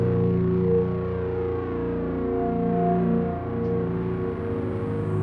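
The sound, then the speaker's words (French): A dense, sustained drone with steady layered low tones and buzzing harmonics, heavily processed and distorted, holding continuously with only slight swells in loudness and no voices. “Puis c'est revenu dans les années 60 où plein de musiciens se sont intéressés au drone et pour en lui-même, en fait.”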